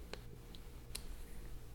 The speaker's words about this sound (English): That keyboard sounds nice, though, when you hear somebody type on it. It does. I gotta say.